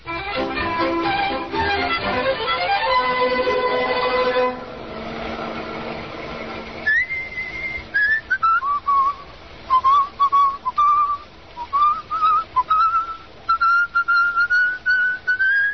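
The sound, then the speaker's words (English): Someone whistles a wavering, high love song melody in short phrases separated by brief pauses while driving, over a steady low rumble that follows a stretch of dense, sliding tones at the start. “You've been murdering that thing ever since we left New York.”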